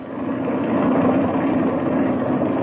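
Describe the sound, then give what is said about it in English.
A propeller airplane engine warms up with the throttle cracked slightly open, running at a steady, throbbing idle, loud, droning continuously without change for the whole stretch, with no voices over it. “I'll crack the throttle open a little bit and let her warm up.”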